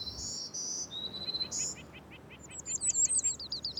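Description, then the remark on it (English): A black-throated green warbler sings a high, thin, buzzy song, then follows with a quick run of short repeated chirping notes, with no talking. “You probably would have heard three times as many black-throated green warblers.”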